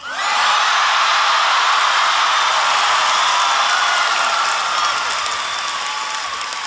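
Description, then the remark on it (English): A large crowd applauds steadily at a graduation ceremony for the class of 2010 in the Big House, a dense roar of clapping that swells quickly and holds loud for several seconds before easing slightly toward the end, with no voices rising above it. “I thought I'd go for the cheap applause line to start things off.”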